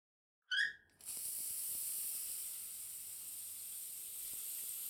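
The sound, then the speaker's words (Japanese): A shower tap squeaks on briefly, then a steady, bright hiss of spraying water runs continuously for several seconds, rinsing soap suds off a person's back, with no one talking. “一旦背中の泡流しちゃうね。”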